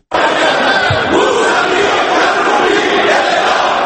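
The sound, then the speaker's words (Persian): A large group of people chanting slogans in unison, loud and continuous, with a dense roar of many voices shouting together throughout. They are members of Iran's parliament, demanding the execution of Karroubi, Mousavi and Khatami. “این فریاد مظاهره کنندگان در کوچه ها و خیابان های ایران نبوده، بلکه شعارهای اعضای پارلمان ایرانند که خواستار جزای اعدام به کروبی، موسوی و خاتمی شدند.”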